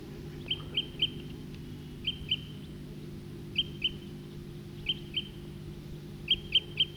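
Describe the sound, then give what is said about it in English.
A male type 2 bird, perched in a tree, repeats short, high, clear "toop" calls in quick clusters of two or three notes every second or so, over a low steady background rumble, with no talking. “Male's still tooping.”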